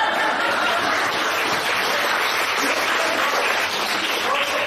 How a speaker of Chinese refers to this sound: 对鼓掌啊！